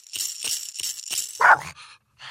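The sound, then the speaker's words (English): A dog barks in a few short, rough bursts over a steady hiss of background noise, with one louder, sharper bark near the end before a brief quiet gap. The barking starts again after someone stops banging coins. “But what we do is when she stops banging the coins, we start barking again.”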